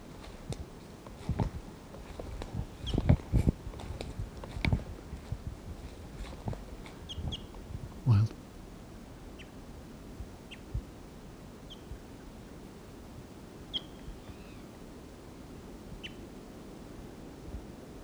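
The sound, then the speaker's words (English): Wild birds give sparse, short high chirps every second or two over a steady hiss, after a stretch of irregular knocks and rustling at the start. “Wild bird.”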